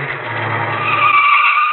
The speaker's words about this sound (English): And here comes a car.